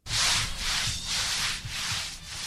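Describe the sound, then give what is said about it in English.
A stiff cornhusk broom, used with a bucket of water, scrubs part of the pavement of Fairhill Square Park at 4th and Lehigh in Kensington, Philadelphia, on National Night Out. Steady, rhythmic strokes make about five broad hissing sweeps in a row with a low scraping underneath and no voices. “got a borrowed bucket of water from one neighbor and took her cornhusk broom to scrub a portion of Fairhill Square Park at 4th and Lehigh.”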